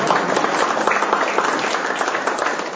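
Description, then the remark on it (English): A crowd applauds steadily in honour of Kate, who is not present, many hands clapping in a dense, continuous patter that holds at an even loudness throughout, with no voices standing out. “And a round of applause for Kate.”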